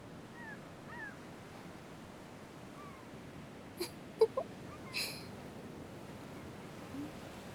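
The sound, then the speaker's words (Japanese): Faint, mewing cries of black-tailed gulls flying by the sea drift in over a steady wash of surf, broken midway by a few sharp knocks. “あの海猫たちって何考えながら飛んでるのかな”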